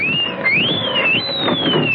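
A siren wails steadily, its high tone sliding up and down in long sweeps over a rumbling, noisy background, loud and continuous for the full two seconds with no voices.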